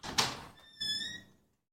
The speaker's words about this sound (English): While I was scrubbing the sinks, though, I heard the front door of the building open.